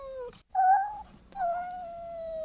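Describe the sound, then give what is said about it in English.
A cat meows three times in quick succession, the last call drawn out and falling slightly, each one clear and with no talking, used as the sound paired with a cat image in a memory experiment. “For instance, a cat was accompanied by a...”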